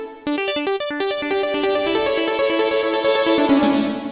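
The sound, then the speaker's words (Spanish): Bright synthesizer notes play a quick melodic pattern, starting crisp and distinct, then blurring into a lingering, washed-out reverb tail as the phrase continues, demonstrating the synthesizer's reverb-type setting. No one speaks. “Tenemos la reverb.”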